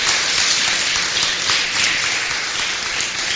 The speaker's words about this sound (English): I don't know if it's appropriate. Can we clap for him? I mean, just saying thank you.